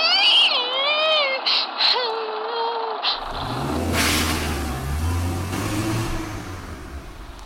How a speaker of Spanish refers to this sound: mientras el coche se ponía en marcha y se alejaba por el valle con un ruido de hierros viejos.